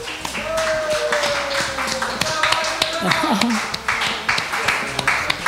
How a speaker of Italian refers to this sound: E che dire, e ringraziamo ancora il Madama Hostel per la sua ospitalità, tutto lo staff, ragazzi, un applauso allo staff del Madama.